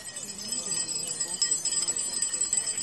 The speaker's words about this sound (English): People in Tucson, Arizona rang small handheld bells yesterday morning at exactly 11 minutes past 10 to commemorate the moment when a lone gunman went on a shooting rampage in the parking lot of a local Safeway.